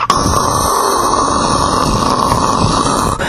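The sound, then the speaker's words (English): A voice imitates a canoe turning and going straight down waterfalls with a loud, steady, rushing roar that runs unbroken for about three seconds, harsh and hissy with a rumbling, growly undertone. “And they both gripped on tightly to the side of the canoe, and the canoe turned and started going straight down the waterfalls. And the sound was like this.”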